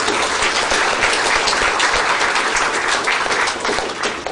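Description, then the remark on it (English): Steady applause from an audience honouring two people present who have done much for their fellow practitioners: dense overlapping clapping holding an even, loud level for several seconds with no voices on top. “who are here today, and they've done so much for their fellow practitioners that I think they deserve a round of applause from all of us.”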